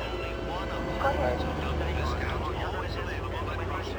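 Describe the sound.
A steady, broad jet drone from an airplane passing overhead above a garden on a sunny Saturday fills the background, while a young girl's high voice chatters intermittently in the foreground.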